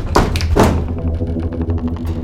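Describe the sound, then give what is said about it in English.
A bent-in metal car roof springs back up: two loud, hollow metallic pops in quick succession, followed by a scatter of faint ticks and creaks as the metal settles. “Then, with a final shocking noise, it popped up even more.”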